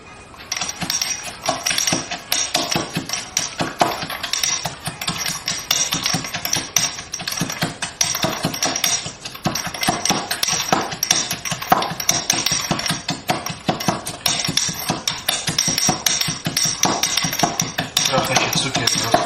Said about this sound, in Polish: Tu akurat typ z Ikei, łóżka do nakładania spaghetti. Akurat taka duża z płaską końcówką na końcu rączki. Doskonale służy za tuczek. Rozgnię tam limonkę z cukrem i miętą.